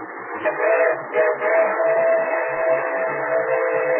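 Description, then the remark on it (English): A freight train coming around a curve on the tracks in the rolling countryside near Corson rumbles along in a steady, dense roar, with a low sustained tone running through it. It stays loud and even for the whole few seconds, with no voices. “Oh, it's only a freight train.”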